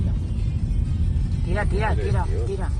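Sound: car engine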